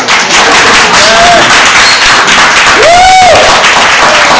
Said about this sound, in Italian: Sì, dai, applaudite, va.